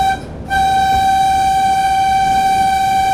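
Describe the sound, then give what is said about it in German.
A steam locomotive runs on open track through a forest with a constant low rumble while a steady, harmonic whistle tone sounds, cuts out briefly near the start, then holds loudly to the end. No one speaks. “Jetzt haben wir ja gesehen, wir sind eigentlich auf offener Strecke oder sagen wir mal, wir fahren gerade durch den Wald.”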